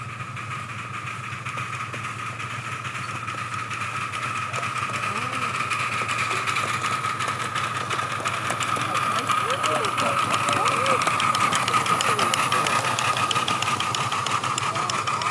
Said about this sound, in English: It's a two-way train.